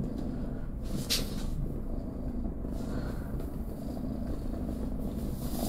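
A large, fat cat weighing 12 jin (about 6 kg) purrs loudly, a steady low rumbling drone that continues without a break for several seconds, with no voices.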